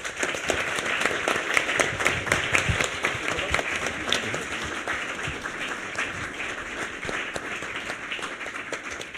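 Sustained audience applause for a departing guest on a show: many hands clapping in a dense, crackling wash that stays fairly steady for about nine seconds, with no voices standing out above it.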